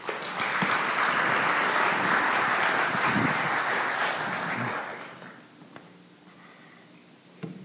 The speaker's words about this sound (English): Got to be fast. That clapping ends fast. It does. We didn't rehearse that.